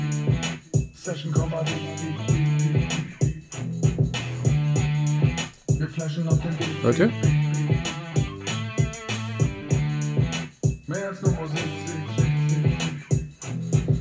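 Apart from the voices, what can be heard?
small bell ringing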